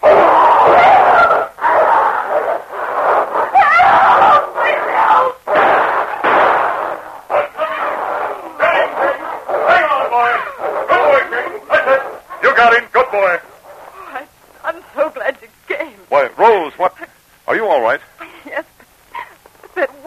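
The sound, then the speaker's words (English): A huge dog, King, and a wolf fight in the darkness, King hurtling for the wolf's throat, snarling and growling ferociously in a loud, frantic tangle broken by sharp bursts. After the fighting fades, a man starts speaking. “But at that moment, another gray form sprang from the darkness as the huge body of King hurtled straight for the wolf's throat.”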